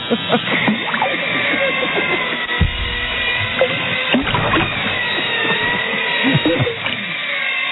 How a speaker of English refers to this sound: Be careful with the power tools in the water. One of those wet shave devices.